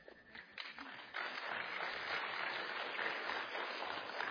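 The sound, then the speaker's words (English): An audience at an award ceremony applauds as names are called for the Book Completion Award, a dense crackle of many hands clapping that swells after about a second and then holds steady and fairly loud with no voices over it. “Now, I'll tell you, help us out if you applaud when all the names are called.”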